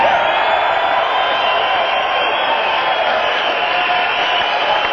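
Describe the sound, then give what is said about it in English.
A seated crowd rises to its feet early in a show, roaring and applauding in a steady, loud wall of sound, cheering continuously without letup throughout. “that a sitting crowd started standing this early in the show.”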